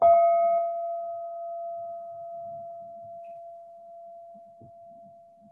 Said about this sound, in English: I'm going to ring the bell as an invitation to everybody coming back.